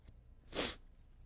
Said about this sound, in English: I apologize for my sniffing tonight. My nose is running and I can't catch it.